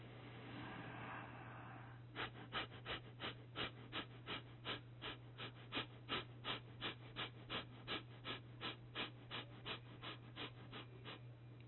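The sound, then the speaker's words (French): Rapid, forceful abdominal breathing through the nose with the head tilted down: a steady train of about twenty-five short sniffing exhalations at a quick even rhythm, clear over a low constant hum. “Puis vous pourrez faire la même respiration abdominale par le nez, cette fois-ci sur un rythme rapide, en commençant avec la tête vers le bas.”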